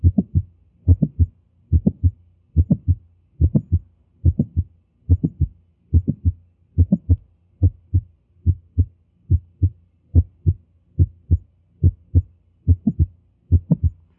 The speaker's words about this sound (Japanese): 8番目の聴診のポイントは、収縮中期のクリック音でありまして、心線部に聴診器を置いて聴診していただきます。ちょうど収縮中期にクリック音が聞こえてきました。